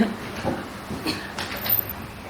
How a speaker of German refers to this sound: Wie geht's euch mit der Tür? Können wir langsam zumachen?